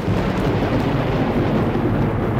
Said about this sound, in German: bis der Donner an Ihr Ohr dringt. Und dann teilen Sie diese Zahl durch 3, um herauszufinden, wie viele Kilometer das Gewitter ungefähr weg ist.